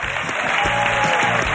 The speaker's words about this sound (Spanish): Y ahora vamos con el tiempo divertido. Un aplauso para María Lama.